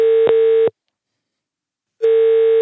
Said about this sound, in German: Ganz anderer Klingelton als sonst.